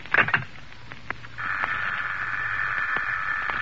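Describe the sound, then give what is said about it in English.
A few sharp clicks and rattles on a telephone line give way to a steady, buzzing tone that drones on without a break, like a faulty connection. No voices are heard. “Oh, what's the matter with this phone?”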